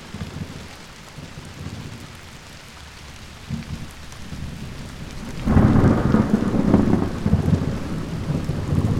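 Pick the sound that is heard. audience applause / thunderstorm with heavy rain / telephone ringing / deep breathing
thunderstorm with heavy rain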